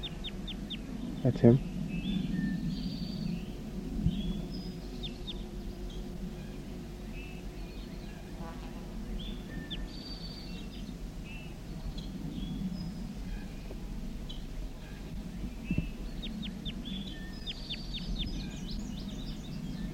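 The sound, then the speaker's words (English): A wild bird, the mate of bird J8, calls repeatedly with short, high-pitched chirps and whistles scattered across the whole recording, fairly faint over a steady low rumbling background. “Recording a wild bird again.”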